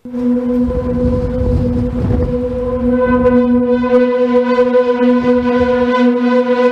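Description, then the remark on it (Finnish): A steady, droning hum from wind passing through the structure of the Beetham Tower in Manchester in windy weather, holding a low tone with bright overtones that swell and waver continuously, with rumbling gusts underneath. No one speaks. “Alla soi YouTubeen ladatun videon ääniraita, jossa kuuluu Beethamin luomaa äänimaisemaa tuulisella säällä.”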